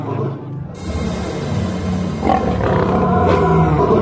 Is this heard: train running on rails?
no